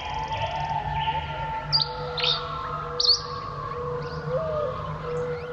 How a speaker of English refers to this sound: One final call before heading off to sleep, giving the day over to the song of birds.